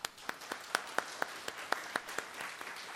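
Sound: audience applause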